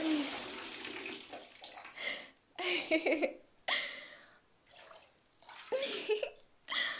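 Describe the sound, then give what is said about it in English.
Water rushing and splashing into a bathtub for a bubble bath in uneven bursts that swell and drop off repeatedly, with a brief voice heard now and then. “Oh my goodness, I can't believe you're making me get in this bubble bath.”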